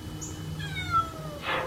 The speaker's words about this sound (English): So here is a video made by someone who was struggling to save some cats. He's stranded on the fence. If I can get him in the boat with us,